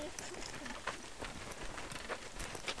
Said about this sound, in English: That's right, that's a bird. It's a pretty bird, isn't it? It's a little bitty bird.